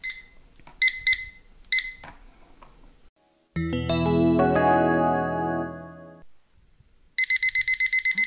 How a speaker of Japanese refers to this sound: はい、タイマーが鳴りました。